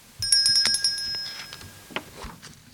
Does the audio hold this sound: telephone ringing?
yes